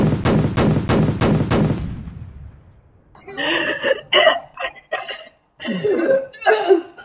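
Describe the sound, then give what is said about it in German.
Five rapid, evenly spaced gunshots ring out loudly in a staged shootout, their echo fading over a second or so, followed by excited voices shouting and calling out. “Hände hoch und stehen bleiben, oder es knallt! In Deckung!”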